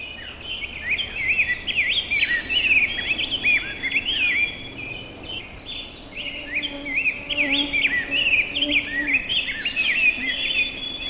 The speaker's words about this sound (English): Trying to sing also with him is a robin, which I think is very musical too, but it's said to be less musical than the grosbeak. A little bit more phrased song. Of course, it's hard to hear anything over the grosbeak, the rose-breasted grosbeak.